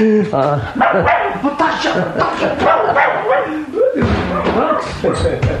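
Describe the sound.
A small dog barks and yaps repeatedly, loud and excited, while people talk over the commotion.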